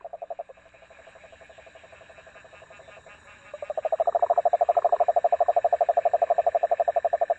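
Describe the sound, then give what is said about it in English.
Frogs or toads out in great numbers after heavy rain following a hurricane in the lower Rio Grande Valley, calling in a dense chorus, a rapid pulsing trill that swells louder partway through and continues steadily, with many overlapping voices and no talking. “And when they come out in great numbers, and also when they flood areas down there for irrigation, you might hear them calling.”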